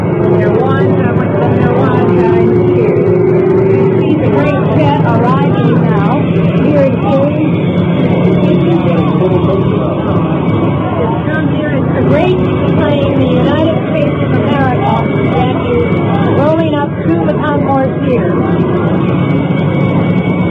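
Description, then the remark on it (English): An airplane returning from Dallas comes in to land at Andrews Air Force Base just outside Washington, its engines a loud, steady roar that fills the whole stretch, with a murmur of voices from a crowd of several thousand people waiting for the president mixed underneath. “Here is the plane now. Made the flight back from Dallas. Plane coming in here at Andrews Air Force Base, just outside Washington.”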